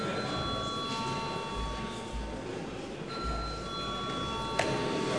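A parliament chamber bell rings in two long, steady bursts split by a short pause, its bright metallic tone held evenly over a low background hum, rung before a vote on a bill.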